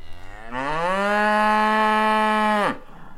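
animal, cow mooing

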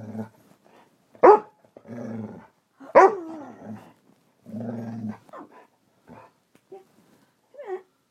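animal, dog barking and growling

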